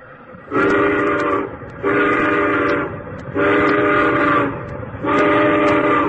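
The whistle of a heavy locomotive crawling toward a hippo asleep on the track blows four loud, sustained toots in a steady rhythm, each about a second long with short gaps between, over a low rumbling background and with no talking.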